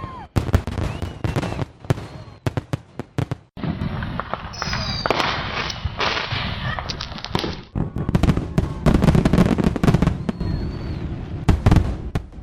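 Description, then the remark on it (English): Fireworks bursting for the new year 2016 in rapid, irregular succession, loud sharp bangs and pops with a stretch of dense sizzling crackle in the middle, echoing outdoors with faint crowd noise underneath. “That's the way to get into a new year with some nice fireworks.”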